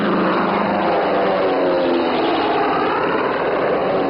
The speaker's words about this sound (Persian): هواپیمای لیسبون.